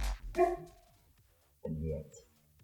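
A dog barks twice, fairly loud: a sharp yelp first, then a lower, drawn-out bark after a short pause.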